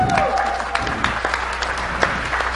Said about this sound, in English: Jennifer Granick, I see you walking back there. Jennifer, everybody give Jennifer a hand of applause.